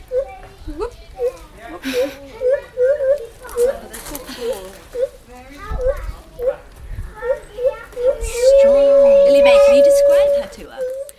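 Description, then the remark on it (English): A female lar gibbon, a lesser ape, sings a rapid series of rising, whooping hoots that build in rhythm, ending in a long sustained wailing note, with faint background voices underneath. “So you can have a listen to that. Hopefully she'll carry on singing.”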